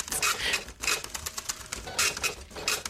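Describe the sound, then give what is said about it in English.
A printer running on its own, with a steady series of rapid mechanical clicks and clattering bursts that rise and fall in loudness, with no voices. “Printer's getting longer, I think.”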